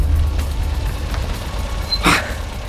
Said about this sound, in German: Nach zwei, drei Kurven waren sie außer Sicht, sodass Bob den Wagen auf dem sandigen Seitenstreifen abstellen konnte.